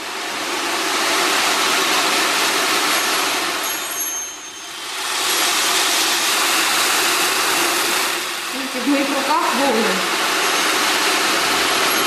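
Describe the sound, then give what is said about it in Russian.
An ocean drum, shown as one of the exotic instruments of a collection, rolls its beads in a steady, loud surf-like hiss that swells and ebbs in long waves, briefly thinning twice before surging back, with a faint tonal murmur near the end. “Вот это звучащая выставка. Ocean drum.”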